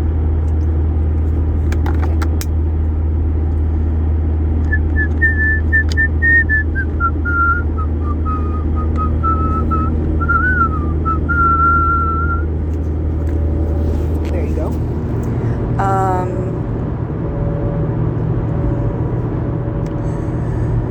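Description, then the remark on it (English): A person whistles a slow, wavering melody, a tune from a show they are rehearsing, for several seconds while riding to rehearsal, over a steady low engine rumble, like inside a moving car, with brief clicks and rattles around it. “So, I will whistle a tune from the show that I'm rehearsing.”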